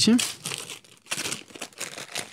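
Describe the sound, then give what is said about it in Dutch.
Crackly rustling of green wrapping paper being torn and crumpled open in several bursts as a gift, a cycling book by Thijs Zonneveld, is unwrapped, with a brief voice at the start. “Mag hem gelijk uitpakken.”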